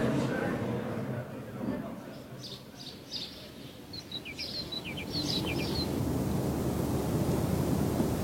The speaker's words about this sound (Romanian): Ușoara adierea vântului și foșnetul frunzelor îmi liniște sufletul.